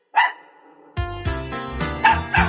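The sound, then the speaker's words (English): A dog named Bingo gives a sharp bark, then two more quick barks ring out over an upbeat musical backing that starts partway through. “There was a farmer, had a dog, and Bingo was his name-o”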